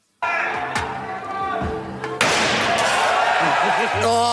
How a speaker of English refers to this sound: shattered both windows in the demonstration